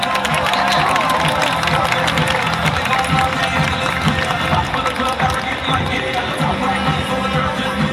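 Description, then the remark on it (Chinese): A large audience bursts into loud, sustained applause mixed with cheering to welcome a senior consultant manager distributor, a dense wash of clapping that holds steady for the whole stretch without letting up. “各位伙伴，现在就让我们用最热烈的掌声来欢迎高级顾问经理经销商”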